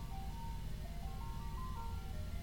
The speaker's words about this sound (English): The ice cream man's going by. Can you hear that? No, I can't hear. Yeah, listen. Here he goes.